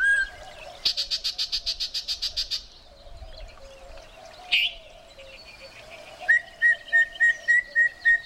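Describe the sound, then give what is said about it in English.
A yellow-breasted chat, a bird with a bright yellow chest and a green face with bold white spectacle-like markings, sings from willow treetops by a streamside canyon in summer: a varied medley of a rapid burst of harsh, buzzy notes, a sharp squeal, then a steady series of clear whistled tones, loud with no talking. “You've just spotted a yellow-breasted chat.”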